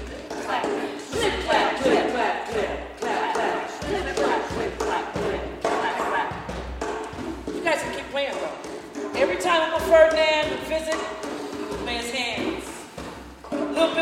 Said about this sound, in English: He pounded on the tables with his knuckles and the base of his hands, making a musical beat that sounded like this. Do da do da da. He'd slap his legs in his chest. Do da da. Swish swash. Big bang bang.